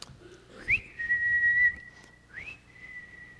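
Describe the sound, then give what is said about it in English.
A father whistles a two-part calling whistle to call his children and the cat home: a rising note held steadily, a brief pause, then another rising swoop into a sustained tone, clear with no talking. “And my dad had a whistle.”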